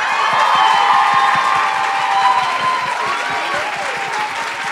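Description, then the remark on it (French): A crowd applauds steadily to welcome an actress as a guest, the dense patter of many hands holding at a loud, even level throughout, with a few cheers and whistles rising over the clapping. “Je vous demande donc d'accueillir chaleureusement la comédienne”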